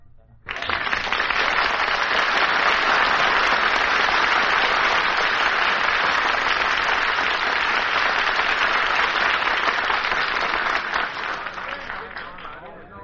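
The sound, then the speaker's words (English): A large crowd bursts into loud, sustained applause that starts abruptly and holds steady for about ten seconds before tapering off slightly at the end. “Well, Curly, you drew a real big crowd.”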